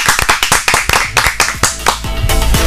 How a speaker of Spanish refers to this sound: Y nos despedimos con un aplauso.